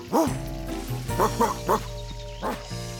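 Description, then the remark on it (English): A big red dog barks about five times in uneven bursts, fairly loud, with a low steady hum running underneath the whole time. “He's always such a good dog.”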